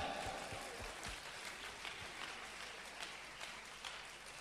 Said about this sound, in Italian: Applaudiamo il Re.